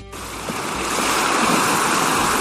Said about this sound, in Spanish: Así, con este sonido de nuestro mar Mediterráneo